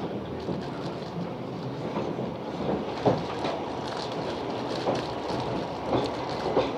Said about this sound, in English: We're up on the right train now. We are.